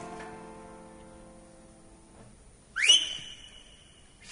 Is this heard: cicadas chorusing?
no